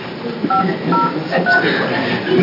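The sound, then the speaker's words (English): A telephone number is dialed, trying another number for Senator Bonamici: a few short, dual-pitched keypad beeps at uneven intervals, heard over a steady murmur of background noise and faint voices. “We can try the other number.”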